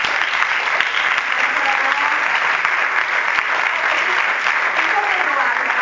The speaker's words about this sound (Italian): Vogliamo farmi un applauso?